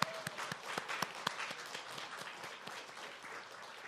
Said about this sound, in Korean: 마지막으로 우리 훈련생들의 마음을 열어주시고 훈련생들을 친히 훈련시켜주시고 깨우쳐주신 우리 성삼위 하나님, 우리 성령 하나님께도 우리 함께 감사와 찬양과 박수 올려드리겠습니다.